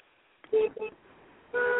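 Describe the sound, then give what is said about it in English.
The horn of a car being driven honks in two quick blasts, followed after a short pause by a longer, steady honk, all sounding thin and muffled as if over a phone line. “Wait, who else is honking?”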